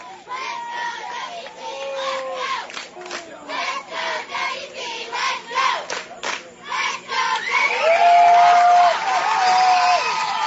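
A ballgame crowd cheers loudly and continuously as the Columbus side gets excited after a call is upheld and a runner is thrown out at second base. Many overlapping excited shouts and whoops rise and fall, with a sustained high whistle-like tone near the end.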